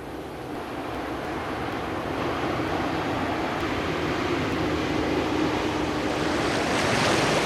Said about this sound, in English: And here it comes, a great wave rushing up the river.